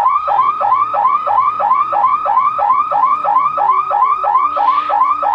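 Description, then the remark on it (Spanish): A car alarm blares with a rapid, repeating rising-and-falling electronic whoop, loud and steady throughout, with no voices over it. “Vamos a ver cómo suena primero una alarma de coche normal.”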